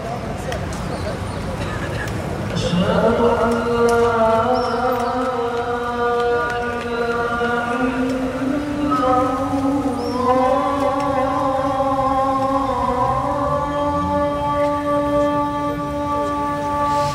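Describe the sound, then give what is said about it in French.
A muezzin's call to prayer from a mosque in Tripoli on a Friday evening rises from about three seconds in, a long sustained wavering chant with rich harmonics, loud over a steady wash of street noise and murmuring background voices. “Et le muezzin qui s'y met.”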